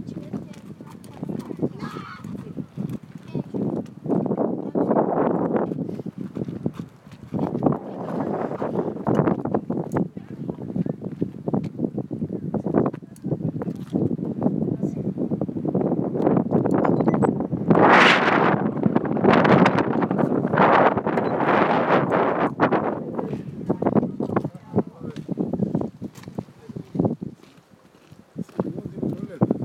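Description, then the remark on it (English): Wind buffets a microphone outdoors at ruins where people pick their way through boulders, a steady low rumble and gusty roar running through the whole recording, with people talking underneath and occasional sharp knocks. “Well, and it's windy, as you can hear, funnily enough.”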